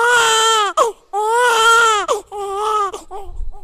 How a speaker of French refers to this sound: Et c'est par ces cris de ces bébés à la maternité Lumbu Lumbu de Kindu que s'achève ce journal